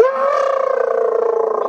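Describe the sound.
A voice imitates a monster's roar, holding one loud, drawn-out, wavering vocal tone for under two seconds, with no other speech.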